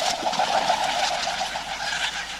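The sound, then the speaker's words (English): A Kereru (New Zealand pigeon) gives a soft, drawn-out hum-like call, steady for a couple of seconds against a hissy, breezy outdoor background, with no one speaking. “In 2018, the citizens of New Zealand voted the Kereru as Bird of the Year.”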